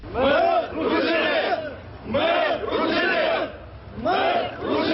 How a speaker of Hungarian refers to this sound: Ruszinok vagyunk, skandálja a tömeg munkács központjában. Alekszandr Duhnovics ruszin pap és költő szobrálől indultak a két legnagyobb ruszin szövetség tagjai a megyei orosz színház épületéhez.